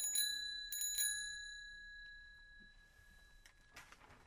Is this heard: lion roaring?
no